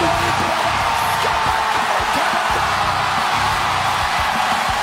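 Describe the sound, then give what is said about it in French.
A WWE arena crowd in Minnesota cheers wrestler Kevin Owens returning to action after 17 months away, in a loud, unbroken roar, with scattered whoops and yells rising out of the dense wash of noise for the full five seconds. “Écoutez la foule au Minnesota!”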